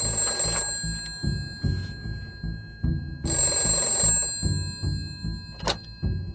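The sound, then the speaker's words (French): An old-fashioned telephone bell rings in two long bursts a few seconds apart, bright and insistent, over a low, steady rhythmic thudding in the background. It is the telephone ringing incessantly in the Bergueron home in a film. “Tout au long du film, la sonnerie de téléphone retentit de façon incessante chez les Bergueron, la quiétude du foyer.”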